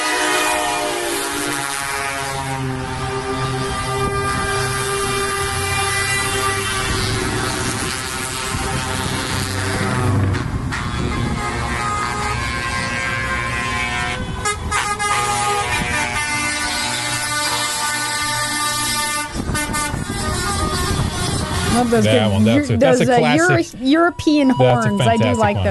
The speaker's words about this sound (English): Those European horns. I do like one.